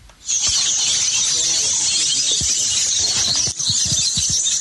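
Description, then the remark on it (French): Birds chirping in the deep forest of the South, at the hamlet of Mokomo in the village of Mefak, Sonkot-Minkan grouping: a dense, unbroken high-pitched chorus that stays steady and loud throughout, with a few soft low thumps scattered underneath. “Des gazouillis d'oiseaux qui traduisent au seul signal sonore une nature généreuse dans la forêt profonde du Sud.”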